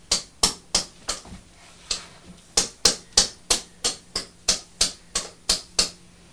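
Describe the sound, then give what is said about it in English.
Gentle hammer tapping, around twenty sharp, light knocks in a fairly steady, slightly uneven rhythm, with a faint low hum underneath and no voices. “Well, just very, very gently with your hammer. If you want to tap it down, you can.”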